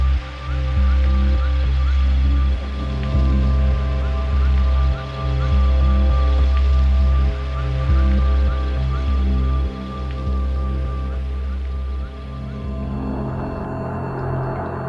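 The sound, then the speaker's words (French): Steady rain pattering on a hard surface on a hot day in the suburbs, a continuous hiss over a deep low rumble that swells and dips in loudness, with no voices. “Il pleut et il fait chaud.”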